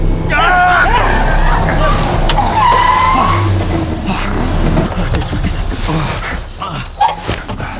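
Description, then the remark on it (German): A car's tires squeal loudly in a sustained skid as it swerves to avoid another car driving in the middle of the road, nearly hitting a tree; the pitch rises and falls over a steady engine rumble, and the screeching fades toward the end amid some background noise. “Der fährt ja mitten auf der Straße. Der weicht ja gar nicht aus.”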